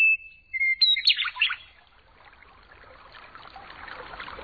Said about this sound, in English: So, you know, now I'm free to stand up and just feel the joy. I can whistle back to the Meadowlark, and we can go into concert together.